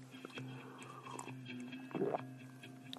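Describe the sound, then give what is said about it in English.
A sip of Murphy's Stout beer, 4.1% alcohol, with soft wet mouth clicks and a brief slurp and swallow near the end, over a low steady background hum. “But hang on while I have another sip.”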